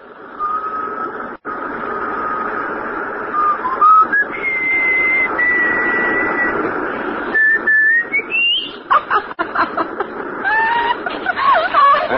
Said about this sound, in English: Can you whistle? Sure. Whistle. Yeah, I know just the tune.